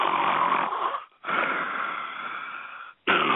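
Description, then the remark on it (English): A voice imitates snoring with three raspy, drawn-out breaths separated by brief pauses, loud, with a rough, rattling texture. “And then be snoring in your ears.”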